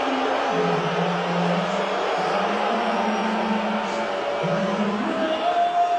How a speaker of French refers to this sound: Hey, m'as-tu entendu ces huées-là? C'est pas petit, hein? Non, c'est un complètement changement de cap, là. On le voit à l'écran au Madison Square Garden et c'est une foule entière qui hue le président américain Donald Trump.